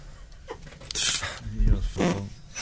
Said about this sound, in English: Please, can I just fart? No. Okay, go.